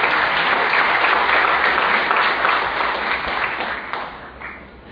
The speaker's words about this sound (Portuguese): Para fazer a abertura oficial do evento, eu convido e peço que recebam com uma salva de palmas